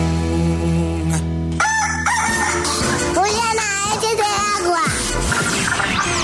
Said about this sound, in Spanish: El gallo.